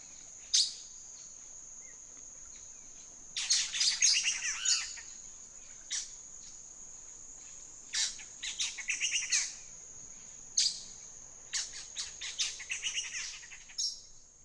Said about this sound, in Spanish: Pero primero, conozcamos a un ave más, el saltador cabeza negra. Es pariente del saltador gris mesoamericano, ese que tiene los silbidos como preguntas. Pero este canto es muy diferente, un charloteo ruidoso que acelera.